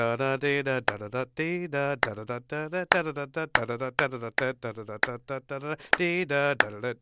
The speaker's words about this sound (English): Is there any way you can kind of clap at the type of rhythmic divisions that you're talking about? Yeah, I can try. Let me see here. So you hear the melody goes like,